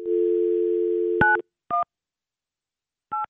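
A telephone call is dialed on the Kiss 95.7 radio show. A steady dial tone hums, then cuts off as three short touch-tone beeps are keyed in with uneven pauses between them, each a bright two-note chirp, with no voices present.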